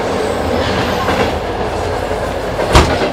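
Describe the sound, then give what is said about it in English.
A first- and second-class passenger train rolls steadily along with a continuous low rumble and rhythmic clickety-clack of wheels, and a sharp metallic clank jolts through near the end. “Okay, they have third and fourth class on other trains.”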